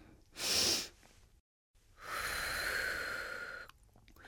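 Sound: deep calming breaths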